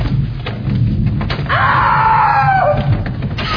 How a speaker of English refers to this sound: I can't open the door. Here, let me try.